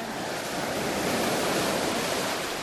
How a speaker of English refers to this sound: You got the nice white sand, and the ocean is clear blue. It's just a great place to swim. It's warm, and you can hear the surf, and it sounds, we're going to get wet pretty soon.